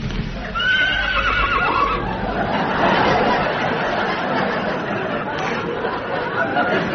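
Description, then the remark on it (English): A horse gives a loud, wavering whinny that slides downward in pitch for about a second, set against a steady wash of background noise and faint murmuring voices. “Well, the horse seems to think you're all right.”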